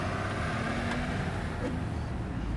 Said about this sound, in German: Ich fahre jetzt aber über die 42, ne? Ja.